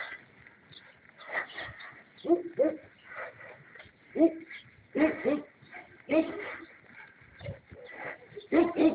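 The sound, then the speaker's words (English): A large dog barks repeatedly in short, irregular bursts, mixed with whiny whimpers and yips, moderately loud, with brief pauses between outbursts. “That sounds like a big pup.”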